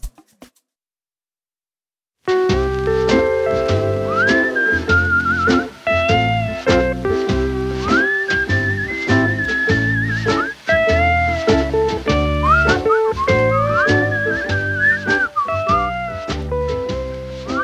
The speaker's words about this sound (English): You know, I've always claimed that if you put whistling in a song, that song will be a super hit.